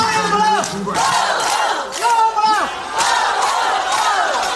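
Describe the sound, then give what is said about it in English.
A loud crowd of thousands of fans cheers and shouts continuously at a village football final, with bursts of voices swelling and falling in pitch roughly every second, over a dense wash of crowd noise. “So even if they are from another village's team, you can still cheer them on.”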